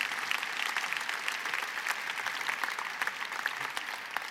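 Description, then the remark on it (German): Steady audience applause for a female participant after her quick-witted reply in a rhetoric exercise, a dense wash of many hands clapping at an even level throughout, with no voices breaking through. “Applaus für die Teilnehmerin.”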